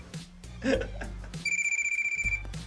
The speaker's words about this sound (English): Get the phone!